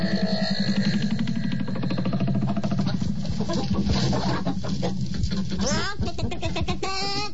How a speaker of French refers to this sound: Vous avez vu comme elles sont grosses, les poules, ici?